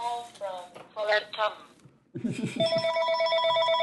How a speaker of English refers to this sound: Oh, who is calling me? I'm not answering this phone. Tom Ford. Ignore.